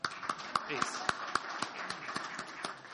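Audience applause, with sharp claps landing in a steady, fairly even rhythm over a dense, continuous wash of crowd noise, holding at a moderate level throughout.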